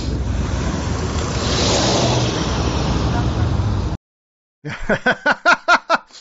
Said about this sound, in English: I like how just the cop car driving by totally totally fucks with his game. He's like all getting into game mode, and then all of a sudden, sixth sense, my spidey sense. There's law enforcement nearby.